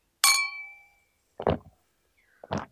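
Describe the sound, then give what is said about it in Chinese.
Two glasses of alcohol clink once in a toast between two friends at a KTV karaoke venue, a bright ring that lingers and fades over about a second, followed by two softer, duller bursts of sound a moment later. No voices. “好了好了，别去给我倒呀，你自己也满上。来，我们干杯。”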